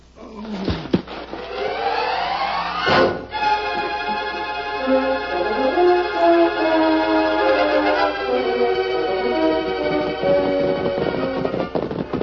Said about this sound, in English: Look out, that was a gunshot, Tonto.